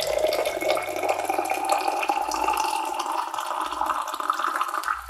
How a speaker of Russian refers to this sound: Вот ты пришел, где есть вода. Ну, здесь, конечно, двойные стенки, но я все равно поставлю в чехол. Мне это удобней. Оно еще не скользит. И наливаем воды.